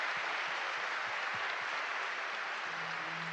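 A crowd applauds a singer's performance steadily, a dense wash of many hands clapping at an even loudness with no voices, and a faint low tone creeps in near the end.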